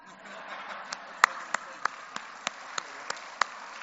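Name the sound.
audience clapping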